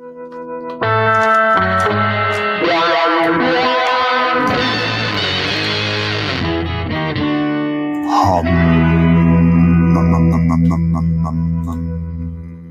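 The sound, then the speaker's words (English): A short, loud burst of intro music built on effects-laden electric guitar with distortion and chorus, strummed chords giving way to a long, ringing sustained chord near the end, with no voices. “Here's the intro music.”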